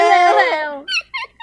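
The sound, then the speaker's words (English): A voice imitates loud weeping of a little flea in a children's tale: a long, high, wavering wail that slides downward, then three short, breathy sobbing gasps in quick succession. “So the little flea began to weep loudly.”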